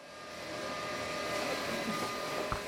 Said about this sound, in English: In the dyeing room, 12 stainless steel machines hum and belch steam. One of them is rinsing a canary yellow piece of cloth.